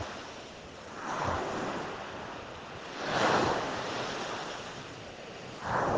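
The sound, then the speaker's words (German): Ocean waves wash in and recede in slow swells, with a steady windy rush underneath; three broad surges rise and fall, no voices present. “Sämtliche Geräusche der Natur, des Windes und alles, was sich zeigt.”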